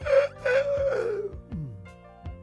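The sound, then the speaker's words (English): A human voice imitates the yawn of a big St. Bernard and German Shepherd mix dog: a drawn-out, whiny moan that slides downward in pitch and trails off, heard alone, with a couple of faint clicks. “He grinned and yawned again.”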